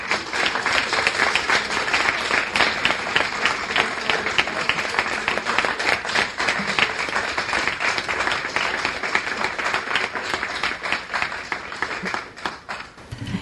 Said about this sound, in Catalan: Un aplaudiment, no?